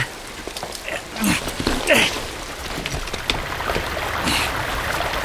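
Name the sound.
waterfall rushing water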